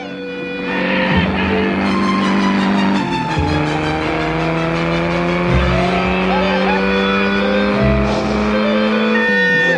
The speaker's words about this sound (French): La Durango 75 ronronnait bien caracho, comme une douce vibration chaude à travers les tripes.